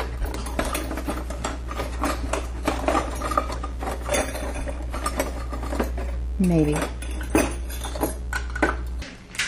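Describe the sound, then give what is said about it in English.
Metal utensils clatter and jangle in a drawer as someone rummages through them looking for a pair of scissors to open a small package of hazelnuts, a busy stream of clinks and scrapes over a steady low hum, with a brief murmured word. “I'm opening this small package with wet hands is a bit of a challenge, so I'm going to take the easy way out and get a pair of scissors to do that.”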